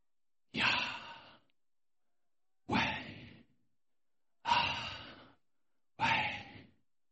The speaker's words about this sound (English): As in, this word was that which could be said simply by breathing. In fact, the conclusion that a number of rabbis came to was that this is actually the sound of breath.